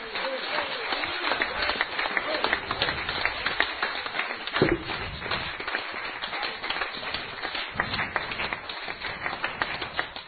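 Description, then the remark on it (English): An audience erupts in steady, dense clapping and cheering for the Lord, a continuous wash of hand claps with voices shouting over it for about ten seconds, holding an even loudness throughout. “Give the Lord a cheer.”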